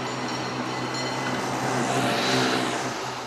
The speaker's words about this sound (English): Millions of people come from all over the world each year to enjoy San Francisco's postcard views, rumbling antique cable cars, and majestic bridges.